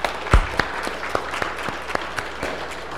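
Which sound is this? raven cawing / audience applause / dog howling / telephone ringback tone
audience applause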